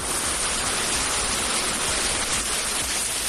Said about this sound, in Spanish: Seguramente ayer por la tarde te sorprendió en plena calle una granizada como esta, que sobre las 7 de la tarde también se escuchó así en Valdefierro.